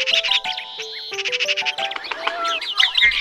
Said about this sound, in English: Hey, don't you love the sound of birds in the morning?